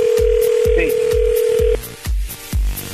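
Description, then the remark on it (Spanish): A steady electronic ringing tone of an outgoing phone call holds for nearly two seconds, then cuts off, while a thumping music beat pulses underneath throughout. “Ah, pensé que ya había contestado. Si contesta, vas vos, ¿de acuerdo?”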